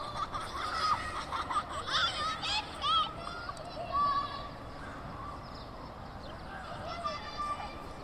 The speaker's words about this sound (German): Ich höre die Kinder, ich höre aber auch die Vögel. Und dann hat es dieses so ein wohliges Rauschen. Ich weiß aber nicht so richtig, wo es herkommt.